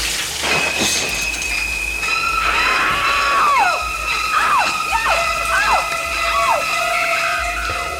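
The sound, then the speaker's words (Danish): Shrill, screeching violin stabs from a classic horror film's shower stabbing scene repeat in sharp, descending swoops over sustained high string notes, loud and frantic, with a shriek-like cry mixed in. “Altså for eksempel, når man står derude i brusebadet, og så hører den her lyd.”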